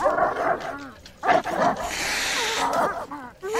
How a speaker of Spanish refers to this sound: ¡Perros! ¡Perros! ¡Fuera! ¡Fuera! ¡Largo! ¡Fuera!